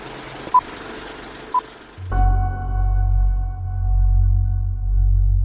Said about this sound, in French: Je vous ai mis cette petite musique type suspense, étrange, ambiance chelou, parce que je vais vous parler de ce qui est pour moi l'une des plus grandes énigmes du cinéma au XXIe siècle, Mulholland Drive